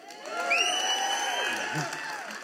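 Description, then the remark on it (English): A crowd breaks into loud, sustained cheering and whooping at the mention of a sports team, U of M, with many overlapping voices and a few high rising shouts over a steady roar that lasts the whole clip. “There's something natural when I just mention a sports team. You're just drawn to cheer.”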